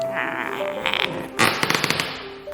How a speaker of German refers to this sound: Auf dem Boden ist sehr viel Holz und das knarzt halt sehr dolle so.